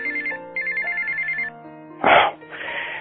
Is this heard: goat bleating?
no